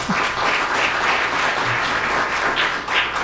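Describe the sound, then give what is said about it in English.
A crowd applauds steadily for the church's current pastor, who has served since the spring of 1993, a dense wash of many hands clapping at once, loud and sustained throughout with no voices standing out. “And I think he deserves a round of applause for that.”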